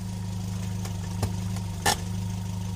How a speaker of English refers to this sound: Oh no, not again. Why have you stopped? Well, this car has broken down again. I have to ring the mechanic.